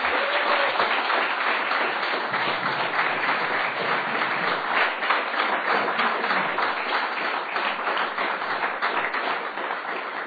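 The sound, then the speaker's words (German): A crowd gives the technical crew a big round of applause, clapping steadily for about ten seconds, a dense, even wash of many hands clapping at once, loud and sustained without letting up. “Und ich möchte euch gerne ermutigen, jetzt einfach mal euer Technik und allen Technikern hier mal einen großen Applaus zu geben für das, was sie Tag aus, Tag ein tun.”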